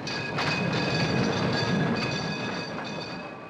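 A tram car rattles steadily along the rails, a continuous loud rumble with faint high metallic whining tones running through it and no voices.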